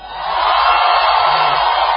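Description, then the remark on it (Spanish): A large audience inside a hall shouts together on cue when asked, in a loud, sustained roar of voices that swells quickly and holds steady for a couple of seconds. “Ahora pueden gritar los de adentro.”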